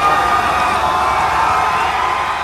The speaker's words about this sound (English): Do you know that Bills fans came out at 2 in the morning in 25-degree weather to greet their team flying home from Pittsburgh after winning and getting into the playoffs for the first time? Listen to the crowd at the airport.